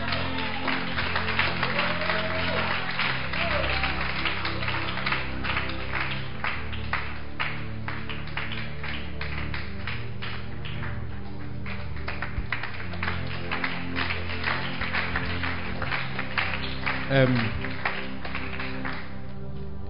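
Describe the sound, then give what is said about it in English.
A church audience claps steadily for the whole stretch, a dense, even wash of many hands with a brief swell near the end and faint voices mixed underneath. “I think this is a good place to clap.”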